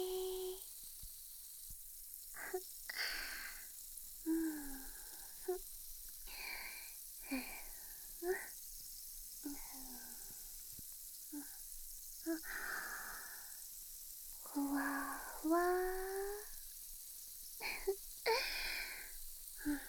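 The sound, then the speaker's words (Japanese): Foam in an ear fizzes and crackles in a steady, soft hiss during ear cleaning, broken by brighter bursts of popping and squelching that come and go irregularly over the whole stretch, with no talking. “シュワーシュワー、パチパチ。”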